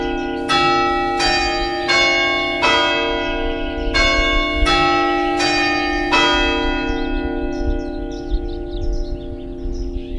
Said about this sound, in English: Strangely, very few people I've spoken to, despite hearing it in one of its four phases every 15 minutes of every hour of every day, well, very few people have noticed that the church clock melody is extremely unusual.